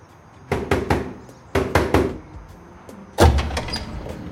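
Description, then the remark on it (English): A woman knocks on the steel door of a DVD warehouse: two quick sets of three sharp, resonant raps, then a heavier bang with a short metallic rattle. Fairly loud, no voices. “She pulls a red envelope out of her purse and walks up to the steel door of the warehouse.”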